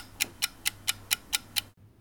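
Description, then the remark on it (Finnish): A clock ticks quickly and evenly, seven crisp ticks in a steady rhythm over a faint low hum, then the ticking stops abruptly. “Kello.”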